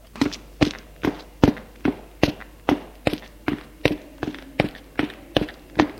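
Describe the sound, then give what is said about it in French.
Steady footsteps climb a staircase to the upper floor of an inn as a woman goes upstairs and a man follows her, about two firm thuds per second in an even rhythm, fairly loud, with no voices. “Franck se lève et la suit. Elle monte à l'étage.”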